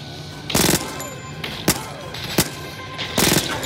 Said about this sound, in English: Micro SMG.